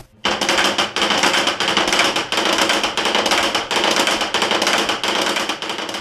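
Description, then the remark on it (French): A giant wooden ratchet rattle, a kakia, is sounded in the windy bell tower at Épau-Villers, where it replaces the church bells as a call to prayer. It clatters loudly and without pause, a dense stream of rapid dry clacks surging in rhythmic waves about twice per second for several seconds. “Alors ça, c'est le kakia, ça remplace les cloches.”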